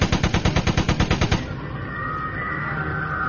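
A loud burst of automatic gunfire sprayed around in a full circle beside a waterfall, about a dozen rapid, evenly spaced shots over roughly a second and a half, then a lingering rumbling echo that slowly fades.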